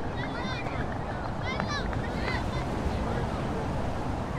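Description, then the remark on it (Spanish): A steady, loud wash of sea waves and wind along the shore in Agadir, Morocco, continuous throughout, with a few faint high cries drifting over it in the first half. “Junto al mar.”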